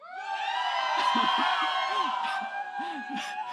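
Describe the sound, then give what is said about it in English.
A large audience shouts together in unison on a count of three, one side trying to out-shout the other, a loud sustained roar of many voices with a few individual yells and whoops rising above the mass. “Okay, you guys, let's see if they can out shout you.”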